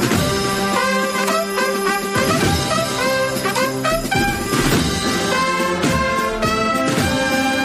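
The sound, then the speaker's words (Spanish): A religious procession by brotherhoods (cofradías) fills the streets of Málaga, Andalusia, Spain, in the evening, with a loud brass band playing a sustained, swelling melody over regular drum beats, continuous throughout with no voices. “Así es como suenan ahora mismo las calles de la ciudad andaluza que se ha librado del temporal Nelson.”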